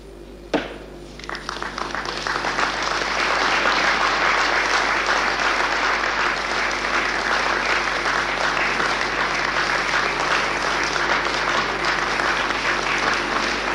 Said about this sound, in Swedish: När Parisdeklarationen för ett nytt Europa idag hade antagits enhälligt utbröt applåder.